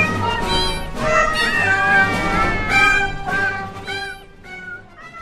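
A cat meows loudly, about five drawn-out, wavering meows in quick succession with no talking in between.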